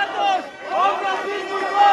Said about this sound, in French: mais la foule qui scande.